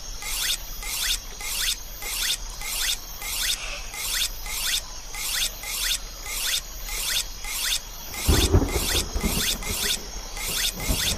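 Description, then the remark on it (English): A knife is drawn across a sharpening stone in steady, evenly spaced strokes, about a dozen gritty, hissing rasps in a row with no talking, and a low rumble joins near the end. “Put the stone in my left hand. And press T to sharpen my knife.”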